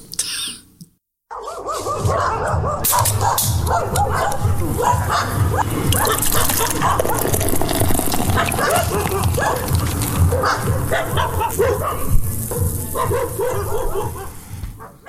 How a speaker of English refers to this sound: We'll be back after this cool... transition of bunch of dogs barking. We'll be right back. You're really making my job hard, you know that? Dogs barking. Okay. Pit bulls.